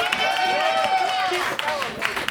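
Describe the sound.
An audience claps steadily, a dense wash of hand claps mixed with cheering and shouting voices that stays loud throughout the short stretch.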